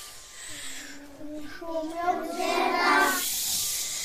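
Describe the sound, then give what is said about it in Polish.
Children's voices imitate blowing wind in a singing game that imitates the sounds of nature, with a rising, wavering 'whoo' that swells into a breathy, hissing gust before fading, lasting several seconds at moderate loudness. “Dmucha wiatr.”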